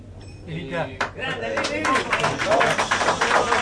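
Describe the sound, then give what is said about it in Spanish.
A crowd breaks into applause that swells quickly into a dense, steady wash of clapping, with voices mixed in underneath. “Silencio, por favor, no aplaudan, porque si no se molestan los periodistas.”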